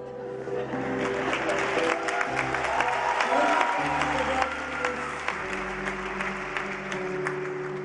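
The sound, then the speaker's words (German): A concert audience applauds enthusiastically, dense clapping filling the whole stretch at steady, fairly loud volume while sustained musical notes continue underneath. “Das Publikum ist begeistert.”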